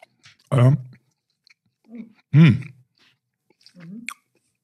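chewing and crunching

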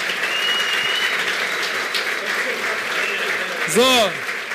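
audience applause

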